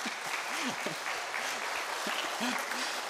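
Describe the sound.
A small group, including a man's own daughter, claps steadily for him after he shares a reminder, in a dense, continuous patter of hand claps, with faint voices murmuring underneath.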